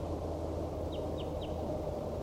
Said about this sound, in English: There appears to be another wild bird down the hollow calling back.